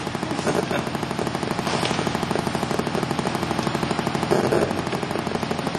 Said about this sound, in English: Is it this thing, you think? I have no idea what it is. Sounds like a motorcycle.